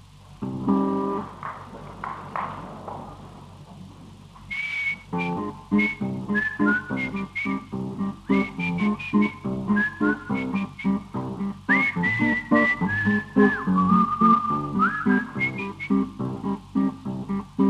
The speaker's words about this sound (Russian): Ты что, мой друг, свистишь, мешает жить в Париж?